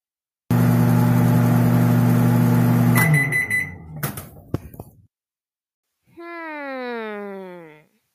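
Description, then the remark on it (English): A microwave oven hums steadily for a few seconds, then beeps in a short run of high tones, followed by clicks and a later wavering, meow-like cry. “Okay, so the correct answer is a microwave.”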